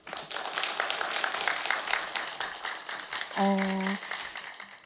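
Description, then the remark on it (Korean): A crowd claps in a dense, steady wash for several seconds, fairly loud, welcoming a performer onto the stage to sing. Near the end a short sustained musical tone rises above the applause. “여러분 어느 때보다 기도하는 마음으로 준비한 무대를 큰 박수로 맞이해 주시기 바라겠습니다.”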